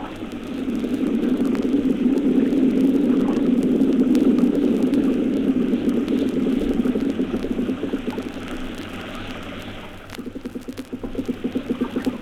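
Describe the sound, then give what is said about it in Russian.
A dense underwater chorus of fish noise, recorded off the coast of Crimea, swells into a broad, continuous wave of crackling and humming, then gradually thins and fades, ending in sparse pulsing clicks. No voices. “Как бы в ответ на одиночные сигналы возникают хоровые шумы рыб в виде нарастающей, а затем затухающей шумовой волны.”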